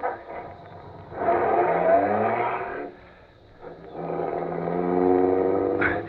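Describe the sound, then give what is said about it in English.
The engine of an official limousine is started with the starter and roars in two strong surges, a brief lull between them, fairly loud, with no voices. “I got in quickly and stepped on the starter.”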